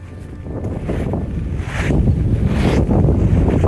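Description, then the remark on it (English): Strong wind roars and buffets the microphone in heavy low rumbling gusts while walking through a cemetery, growing louder toward the end, with no voices. “It was incredibly windy, and you've got gravel crunching under you.”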